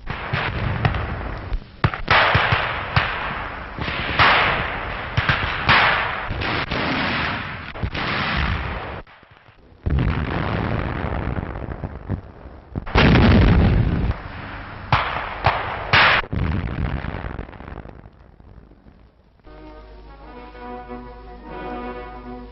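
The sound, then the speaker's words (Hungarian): Loud, relentless gunfire crackles in dense bursts mixed with heavier blasts as infantry charge through a breach with close-combat weapons, pausing only briefly before resuming, until the battle noise cuts off and orchestral music takes over at the end. “Résen át a gyalogság közelharci fegyverekkel rohamra indul.”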